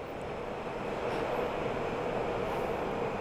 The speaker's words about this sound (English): Our train is here.